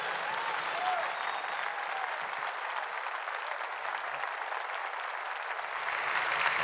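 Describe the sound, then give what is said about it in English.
A large audience breaks into sustained, steady applause to welcome Pastor Robert Morris of Gateway Church in Dallas, Fort Worth, a dense wash of clapping that holds at an even loudness for several seconds and swells slightly at the end. “So out of honor for who he is as an overseer of our church, would you stand to your feet right now and welcome Pastor Robert Morris from Gateway Church in Dallas, Fort Worth.”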